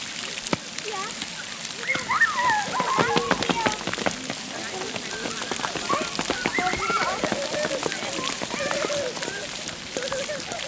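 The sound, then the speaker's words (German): Water runs and splashes steadily at an open water play area of a playground where children run through the water, with a dense, hissing patter and frequent sharp spatters, while voices chatter and call out over it throughout. “Ist denn das Wasser gerade an? Ja.”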